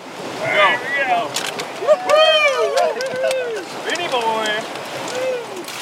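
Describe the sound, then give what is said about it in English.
Crews paddling boats through the last of the river rapids after lunch, with a steady wash of rushing water underneath and several voices calling and shouting out over it. “After lunch, the crews paddled through the last of the rapids.”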